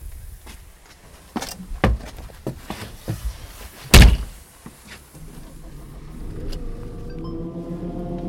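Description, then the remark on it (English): Several sharp clunks and a loud door slam, then a tractor engine starts up and settles into a steady, low rumbling idle for the last few seconds. “Come on then, let's get in your tractor.”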